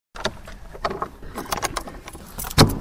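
Keys jangle and scrape in the lock of the old village bakehouse door in Haarlem, a 700-inhabitant village near Wabern, with several short metallic clinks and rattles, ending in a louder, sharp clunk as the latch or bolt gives way.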